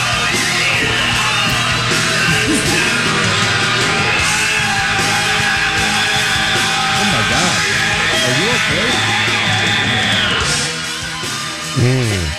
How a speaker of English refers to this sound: Was that a roar? I thought you were like roaring. It sounded like a murder scene.